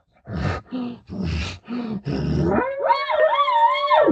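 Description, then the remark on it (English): A voice imitates a bull panting at a cow: five quick, rhythmic huffing grunts, then a loud, drawn-out, wavering moan that rises and holds before cutting off. “You'll watch a bull pant toward cows, and you'll watch a bull pant toward bulls.”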